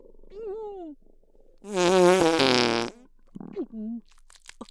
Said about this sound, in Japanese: すまない、つい近くで見られていると思うと興奮しておならが出てしまった。あったかくてくっさいガス、顔全体で感じれたか。